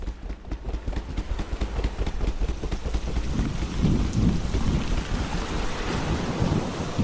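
A raging storm with steady heavy rain, gusting wind and deep rolling thunder, loud throughout, with a continuous low rumble beneath the downpour and no voices.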